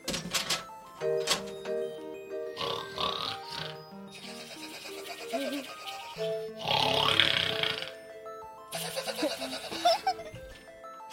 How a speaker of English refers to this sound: I think he's out snoring on the couch. You mean this couch right out here? Yep.